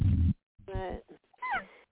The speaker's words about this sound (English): Oh, that's a little puppy crying. How cute.